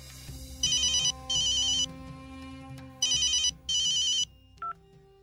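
A police inspector's telephone rings with a call from a doctor, two double bursts, each a pair of bright electronic trills with short gaps, loud, followed by a brief click as it's picked up; no one speaks.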